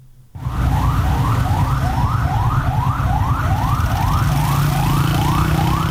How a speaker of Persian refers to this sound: این صدایی بود که امروز در محدوده مرکزی شهر تهران ساعت‌های متمادی شنیده می‌شد. صدای آژیر اتومبیل‌های آتش نشانی و آمبولانس‌هایی که از اولین ساعت روز تلاششان را برای اطفای حریق ساختمان پلاسکو، اولین ساختمان بلند مرتبه تهران، آغاز کردند.